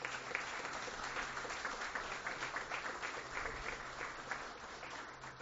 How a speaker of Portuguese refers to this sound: Eu peço uma salva de palmas porque está de aniversário hoje.